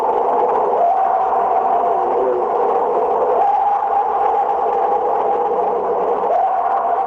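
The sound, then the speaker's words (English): A purported Bigfoot scream recorded by researchers: long, drawn-out wailing howls held at a steady mid pitch, stepping up slightly between calls, loud over a constant hissy background with no talking. “said to be a Bigfoot scream.”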